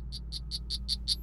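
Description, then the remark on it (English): A poison frog named Lenny calls in a rapid, steady series of about seven high, buzzy chirps, clear over a low background rumble, with no one speaking. “Isn't that the poison frog?”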